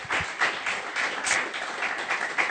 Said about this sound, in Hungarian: Úgyhogy csak adjunk tényleg még egy tapsot az édesanyáknak, nagymamáknak.